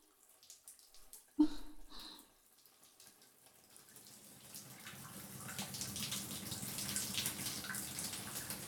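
shower water running

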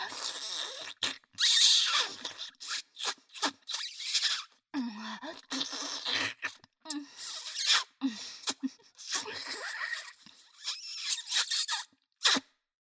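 high-pitched scream

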